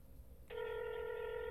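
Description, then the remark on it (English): A steady electronic telephone keypad tone switches on partway through and holds evenly to the end, loud, like a single held beep over faint background noise, with no talking, as a phone is dialed to make a call. “Okay, let's take a break. I'll call BJ.”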